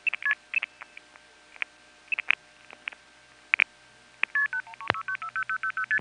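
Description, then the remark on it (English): Scattered line clicks and short tone blips, then a rapid run of steady multifrequency (MF) tone pairs over a phone line on a call to Fort Myers, briefly interrupted by a sharp burst, a secondary trunk flash, partway through before the tones continue. No talking. “We did have one example of a secondary flash happening in the middle of an MF sequence during one of those calls to Fort Myers.”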